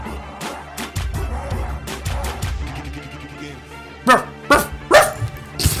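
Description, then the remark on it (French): A man's voice imitates a barking dog in a rap track, letting out three or four sharp, loud barks in quick succession toward the end, over a steady rhythmic backing with deep bass pulses. “Le gars n'hésite pas, il imite le chien quoi.”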